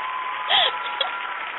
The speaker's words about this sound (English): They get some real applause for that as soon as I find it.